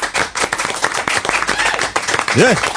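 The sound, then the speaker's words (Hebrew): A studio audience claps at the start of a television show, a dense, steady burst of applause, loud throughout, with a short rising vocal cry cutting through near the end. “יוצאים לדרך, תנו כפיים פה באולפן, תנו לי קצת אנרגיות.”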